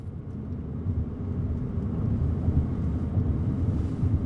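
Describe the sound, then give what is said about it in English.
Steady, low road rumble and wind noise from a car cruising at speed, driving north through open prairie under big clouds toward Gillette in July 2019, a continuous droning hum with no voices and no breaks. “It's now July of 2019, and I find myself back in the car, driving north through open prairie and big clouds, heading back to Gillette, for not great news.”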